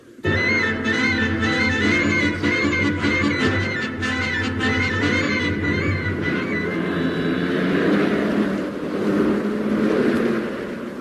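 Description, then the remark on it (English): The powerful engine of a huge pyramid roars loudly and steadily as it drives off toward Monte Carlo, its revving rumble and whine sustained throughout with no voices. “In the huge pyramid with its powerful 2000 BC engine”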